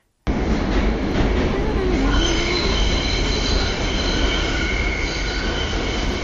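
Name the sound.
subway train riding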